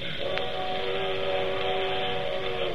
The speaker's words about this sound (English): That's the only thing I don't like. Them train whistles.